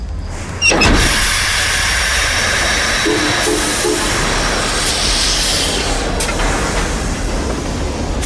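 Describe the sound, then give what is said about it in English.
After a brief quiet start, a steam locomotive with a gas headlamp bursts into a loud, steady hiss and rumble, the broad whooshing noise holding strong as the train pulls away into the darkness. No voices. “Looking ahead, Kyle saw the track unfold out of the black void, come into the light of the gas headlamp, then slip behind them as the train hurtled through the darkness.”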